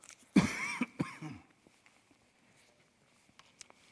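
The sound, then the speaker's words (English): A cough drop being pulled out and unwrapped: a loud rustling burst of crinkling plastic, then a few soft, scattered crackles as the wrapper settles. No one speaks. “I'm going to go ahead and get me a cough drop here.”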